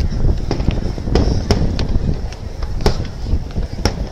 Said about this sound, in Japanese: 今は花火大会ですね。花火大会のたくさんの会場から録音しております。